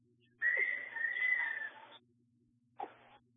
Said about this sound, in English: The whistle is blown as the timeout is called by Hanover before they get the inbound play in.